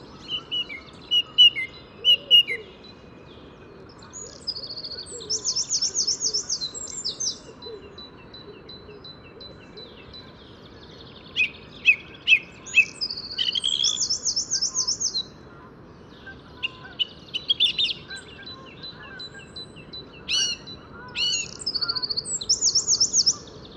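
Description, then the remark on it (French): Songbirds sing in bursts in early spring, days after frost and snow. Rapid trilling phrases of a Eurasian wren alternate with repeated whistled motifs of a song thrush, over a steady low outdoor rumble. “Bon, ça y est, là, ça sent vraiment le printemps. Hein. Le troglodyte mignon, la grille musicienne.”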